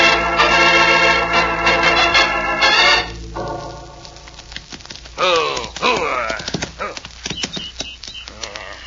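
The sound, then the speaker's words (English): A horse whinnies loudly with shrill, wavering cries, then gives a falling neigh, while hooves clop in an uneven rhythm. “Oh, you're a fast horse. You're a good horse.”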